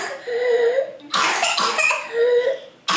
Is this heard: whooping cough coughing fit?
yes